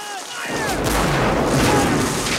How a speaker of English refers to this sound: soldiers fire their muskets at the advancing troops, and several of the Unionists crumple to the ground, while another volley of cannon blasts rips through the field.